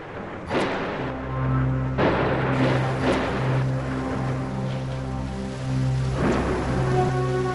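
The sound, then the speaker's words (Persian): Steady rain hisses throughout a storm under black clouds covering the whole sky, broken by several loud thunder cracks and rumbles, with a low droning hum underneath. No voices. “ابر سیاه تمام آسمان را پوشانده. فکر می کنم هوا دارد طوفانی می شود.”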